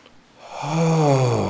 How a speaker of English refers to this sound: Let's just start by taking a nice deep breath in through the nose.